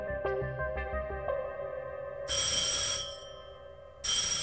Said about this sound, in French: Le 18 août, à 16h30, à l'ambassade, le téléphone sonne.